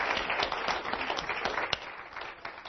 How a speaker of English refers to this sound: Just give her a good round of applause.